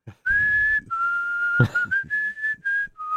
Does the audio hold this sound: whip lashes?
no